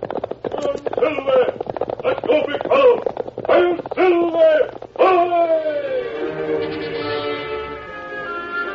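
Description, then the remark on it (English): Loud, rapid hoofbeats of the great horse Silver galloping pound in a steady rhythm for several seconds, then give way to a sustained swell of dramatic orchestral music, opening The Lone Ranger. “From out of the past come the thundering hoofbeats of the great horse Silver.”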